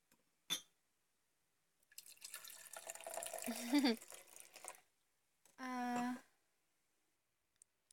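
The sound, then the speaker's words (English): Wine pours into a glass for about three seconds, the gurgle rising in pitch as it fills, after a sharp click. A brief hum-like tone follows, then quiet. “Let me pour you a glass and just chill out there.”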